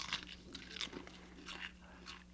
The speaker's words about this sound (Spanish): También puede escuchar cuando mastica un azotador.